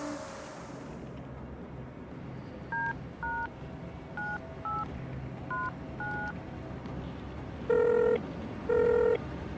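Six quick touch-tone beeps as a phone number is dialed to call a woman, unevenly spaced over a low background hum, followed by two longer, louder ringing tones before the call is manually disconnected.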